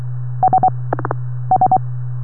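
Two quick bursts of three steady electronic DTMF dial tones heard over a radio, separated by a short, rougher buzzy burst, all over a constant low hum with no talking.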